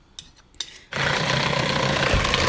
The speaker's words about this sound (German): Und jetzt schlägt man das mit einem Mixer so zu einer Konsistenz, dass es eigentlich perfektes Topping ist. Und man kann auch noch immer angleichen und ja.